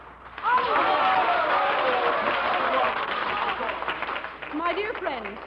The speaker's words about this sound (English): My dear friends, I thank you for your applause.